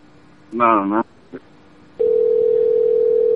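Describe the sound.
A short burst of voice gives way to a steady electronic phone tone that starts partway through and holds at even loudness until the end, like an outgoing call ringing.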